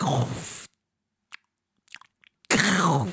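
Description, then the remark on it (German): A voice imitates a woman eating and trying to chew extra quietly and slowly: a few soft, wet mouth clicks and squishes spaced apart in near silence, framed by louder, noisier bursts at the start and end. “Und dann, meine Frau isst dann irgendwas, wenn wir hingucken oder so, und versucht dann extra leise zu kauen. Aber es macht es doch schlimmer.”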